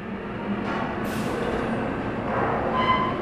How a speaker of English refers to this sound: An oil rig is a dirty and noisy place, a juggernaut of machinery that juts 15 stories above the treeless tundra. Outside, it's impossibly cold, but inside this derrick, a crew of roustabouts in grimy coveralls is aiming for a fresh pocket of oil